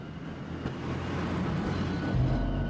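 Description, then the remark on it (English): A car engine rumbles at night, its low drone steady and then swelling louder near the end as the car pulls up into Jericho; no voices. “That night, as Smith plays solitaire in the Redbird, Joe watches out the window as a car pulls up into Jericho.”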